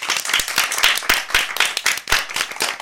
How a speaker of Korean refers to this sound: 따뜻한 박수로 맞아주세요.